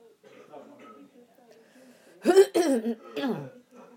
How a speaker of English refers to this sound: We've all got coughs in the morning. It's really unhealthy.